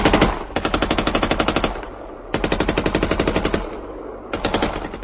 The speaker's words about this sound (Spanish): Las bombas caían sobre la estación. Mientras el tren daba marcha hacia atrás, los pasajeros saltaron de los vagones buscando dónde esconderse ante el bombardeo y el fuego de ametralladoras de los aviones alemanes.